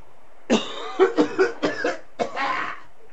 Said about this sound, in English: as everybody around here started coughing at once. I don't know why that is. Why are you coughing?